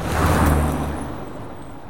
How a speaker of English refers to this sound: Our mom drives the car home.